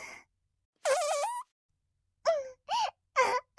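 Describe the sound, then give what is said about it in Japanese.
A longer squeaky, tonal fart, caused by garlic eaten, is followed after a pause by three short, high-pitched toots in quick succession, fairly loud with silence between them and no talking. “かわいい音。プーだって。こういうかわいいおならを女の子はするべきだよね。”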